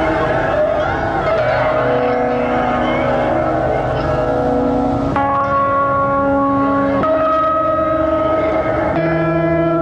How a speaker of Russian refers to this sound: садовое кольцо, шум которого послужил фоном для нашего разговора.